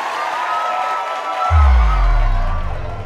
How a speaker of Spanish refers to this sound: México es campeón. Por eso pedimos una ovación.